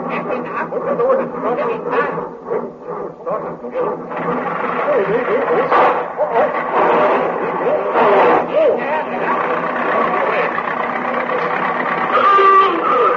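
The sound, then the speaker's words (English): A jeep engine runs with a steady, rough drone that holds its level as the vehicle pulls away, with muffled voices mixed in under the mechanical noise. “Well, sister, quick to the jeep.”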